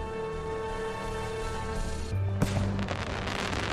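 sound effect, fireworks exploding

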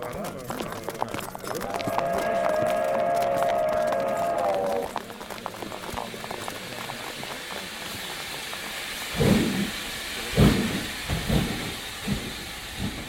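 vehicle, steam train departing

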